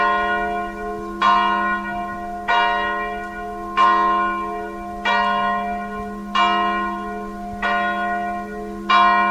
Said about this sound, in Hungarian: Hallgattuk az Alsó Csernátoni Református templomnak a harangját. Hány harang szól a toronyban? 2 harang szól, egy nagy harang és a kis harang.